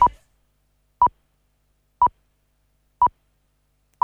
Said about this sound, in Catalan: Senyals horaris que marquen que són 2:15.